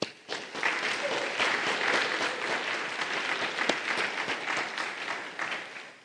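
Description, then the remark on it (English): A roomful of people applaud everyone who helped with this year's barbecue, a dense, steady clatter of many hands clapping that holds for several seconds before tapering off slightly at the end. “And also another round of applause for everyone who came out to help with this year's barbecue and make it the success it was.”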